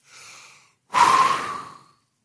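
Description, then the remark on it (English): A soft, quiet inhale followed by a forceful breath blown out, demonstrating breathing on someone, a breathy rush lasting about a second that slowly fades. No one speaks. “He breathed on him. He breathed on him.”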